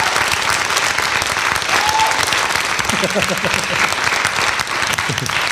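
Steady, dense applause from an audience for a question, filling the whole stretch at a fairly loud level, with a few voices rising briefly through the clapping partway through.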